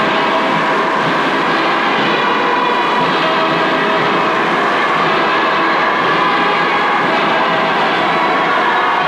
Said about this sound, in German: Panzerzug fuhr im Anhalter Bahnhof ein.